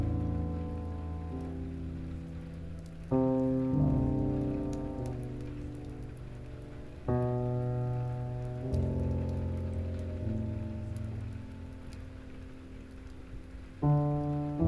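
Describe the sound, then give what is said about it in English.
Steady rain patters softly in the background beneath slow, sustained synth chords that shift every few seconds, creating a calm, continuous wash of sound with no voices. “Be one with the rain. The comforting, rhythmic healer all around you.”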